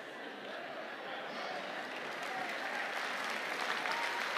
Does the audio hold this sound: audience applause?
yes